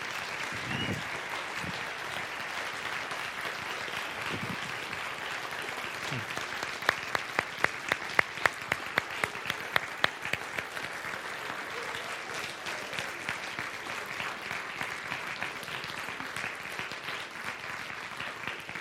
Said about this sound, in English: Would you give them a big round of applause, please?